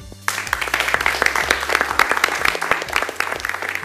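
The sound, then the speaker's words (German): An audience of entrepreneurs and guests of honour at a Düsseldorf economic development event breaks into steady applause, many hands clapping in a dense, crackling patter that starts abruptly and holds at a fairly loud, even level throughout. “Und wir wollen uns mal gegenseitig jetzt Lob spenden mit einem kleinen Applaus.”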